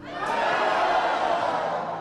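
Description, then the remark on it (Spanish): A crowd shouts a battle cry on the count of three: many voices roaring together at once, loud and sustained, holding steady for about two seconds before beginning to fade. “Por favor, dé un grito de guerra conmigo a la cuenta de 3.”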